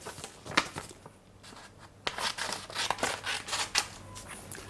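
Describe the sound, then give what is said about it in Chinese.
Scissors cut through paper in a quick series of crisp snips, with a soft papery rustle between cuts, briefly pausing before the snipping resumes at an uneven pace. “剪刀， 我有一把剪刀， 我在剪纸。”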